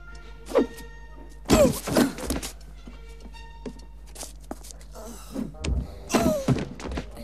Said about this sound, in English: Amelia throws her suitcases at Francis from out of a window.